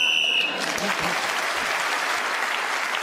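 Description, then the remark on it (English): A single shrill, steady whistle blast lasting about half a second, blown at the end of a round as Clement Freud gets the whistle, immediately followed by loud, sustained applause from a crowd that continues to the end. “So, at the end of that round, Clement Freud got the whistle.”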